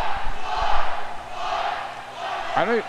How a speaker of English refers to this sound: Well, the thing I don't get that the student section is doing right now is they're screaming. But they're waiting to scream until after she's let go of the ball.